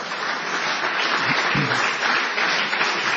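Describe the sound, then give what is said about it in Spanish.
A woman applauds enthusiastically: steady, dense applause fills the whole three seconds, a continuous crackle of many quick claps at an even, fairly loud level, with no voices over it. “Mire cómo aplaude la señora, está.”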